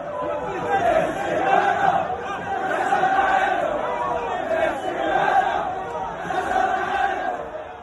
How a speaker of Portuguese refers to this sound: A torcida da Arábia Saudita foi incrível aqui, a presença deles, a maneira de o que eles incentivaram, o que eles cantaram, o que eles gritaram. A torcida foi uma torcida espetacular enquanto eles estiveram aqui.